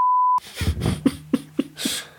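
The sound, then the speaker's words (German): A short, loud, steady censor beep at one pitch, lasting about a third of a second, is followed by a run of quieter, rhythmic bursts of sound. “Piepen wir. Das ist die Piepshow.”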